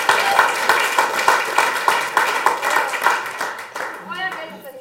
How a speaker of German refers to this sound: Das ist, ja, finde ich auch, können wir gerne schon mal klatschen.